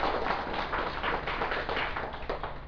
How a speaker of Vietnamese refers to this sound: Xin quý vị vỗ cho mình một tràng pháo tay ha.